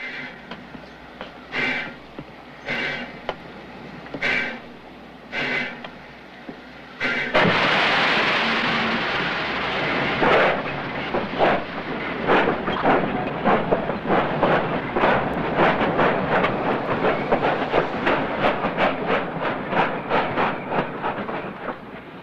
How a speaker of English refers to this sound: Clouds of steam bellow out as Joe guides the locomotive towards the station in the center of town.